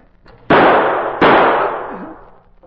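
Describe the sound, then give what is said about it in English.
Two loud gunshots, fired at a door in a Green Hornet radio drama, go off less than a second apart, each a sharp crack trailing into a long, fading roar, with no voices heard. “Take good aim and shoot as soon as he opens that door.”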